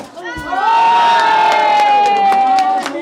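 A crowd erupts in loud, sustained cheering as a ball, cut free from the dried vines holding it with a curved blade, drops into a hole at its official consecration, with high shouts and a long held whoop rising above the roar, plus a few sharp bursts scattered through the noise.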